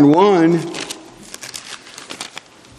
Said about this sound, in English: I'm still turning pages, brethren, because you need to turn the pages too.